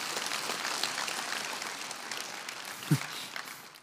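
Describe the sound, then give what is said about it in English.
A crowd applauds with steady, dense clapping that holds at an even, fairly soft level for a few seconds, with one brief low thump partway through and no voices. “You can give that a round of applause. I know some of you want to clap.”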